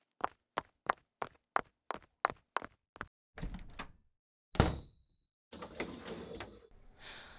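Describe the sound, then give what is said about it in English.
A quick, even run of footsteps approaches, then a door opens with a heavy thunk and a brief metallic squeal, followed by rustling movement as someone walks in through the door to a living room. No one speaks. “What do you think whoever the hell walked in through that door is going to think if they saw me on top of you in the middle of the living room?”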